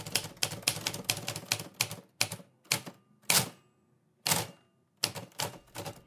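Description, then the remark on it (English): A manual typewriter clacking away, with a quick burst of sharp keystrikes followed by slower, scattered strokes and brief pauses, heard on its own with no talking. “If you've never heard that sound, it's a manual typewriter.”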